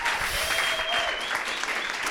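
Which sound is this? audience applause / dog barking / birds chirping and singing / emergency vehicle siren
audience applause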